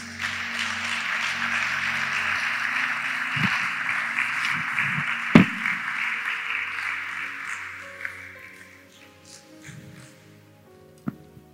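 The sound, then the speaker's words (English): A crowd applauds for Jesus in a dense, sustained wash of clapping that holds steady for several seconds, then gradually thins and fades out, leaving a few scattered claps and faint sounds at the end. “Clap for Jesus.”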